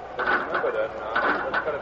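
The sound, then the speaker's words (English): Turnstiles clatter at Yankee Stadium as crowds file through, a few mechanical clicking bursts repeating at a steady pace over a continuous murmur of crowd voices. “You could chart it by the sound of the turnstiles at Yankee Stadium as the crowds poured in.”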